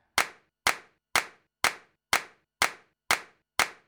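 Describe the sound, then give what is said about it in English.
Eight sharp hand claps in a steady, even rhythm, about two per second, crisp with quick decays and silence between them; no voices. “To the world of clap.”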